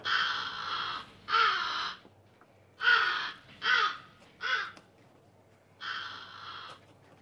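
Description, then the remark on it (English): A caged blackbird in a large office caws six times in harsh, raspy bursts, the calls fairly loud with uneven pauses between them, and no voices present. “Now in a large office, a blackbird sits in a cage.”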